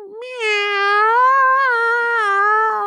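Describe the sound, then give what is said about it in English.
A person imitates a cat with one long, drawn-out meow, a sustained wavering wail lasting nearly three seconds, loud, with no other sounds around it. “Here's a cat sound I make.”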